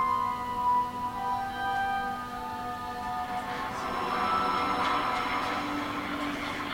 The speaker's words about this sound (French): C'est les trains de charbon qui parcourent sur une voie privée qui appartient à la mine jusqu'au port au nord à Saint-Denis. Donc c'est 150 km de rail pour transporter le charbon.